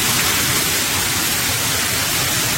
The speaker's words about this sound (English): At this underpass in Yonghe, a waterfall cascades from the ceiling.